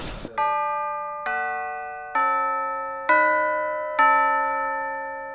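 Five slow, evenly spaced bell-like strikes ring out one after another, each note sustaining and fading, played on an instrument to imitate the bells of the Frišťanský church, clear with no talking.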